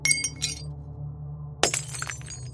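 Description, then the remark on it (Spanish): Drinking glasses fall by themselves and shatter in a kitchen at about 3 a.m., in two bursts: a first crash with bright, ringing shards, a pause, then a second loud smash followed by scattered tinkling pieces, all over a low steady hum. “Me asomé por un pequeño espacio entre la puerta y la pared, viendo cómo los vasos empezaban a caer solos.”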